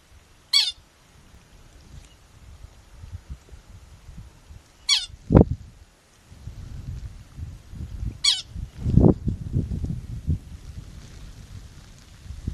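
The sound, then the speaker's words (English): Three short, high-pitched pika chirps ring out a few seconds apart up on the tundra, each a quick squeaky descending call, over a low gusty rumble of wind outdoors. “Pika or pika make a cute little chirp call that sounds like pika.”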